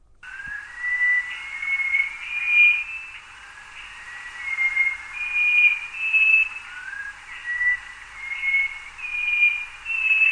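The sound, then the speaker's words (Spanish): Song of a blue whistling thrush (Myophonus caeruleus), a tropical bird: a run of clear, high, pure whistled notes rising and sliding in tuneful, scale-like musical phrases, repeated steadily over a faint hiss with no talking. “Hay otra ave tropical que también es muy buena cantora, la Miophoneus caeruleus, que fíjate que se marca unas escalas musicales.”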